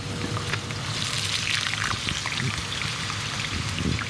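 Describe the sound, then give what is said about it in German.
Potatoes frying in oil: a steady, dense sizzle with constant bright crackling and popping, holding an even loudness throughout with no voices. “Während die Kartoffeln im Öl braten”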